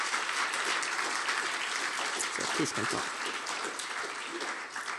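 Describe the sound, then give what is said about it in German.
Sustained applause from an audience welcoming two people, a dense wash of clapping filling the whole clip at steady loudness, with a few brief voices calling out beneath it midway. “Ich würde sagen, wir geben den beiden ein herzliches Willkommen mit einem Applaus.”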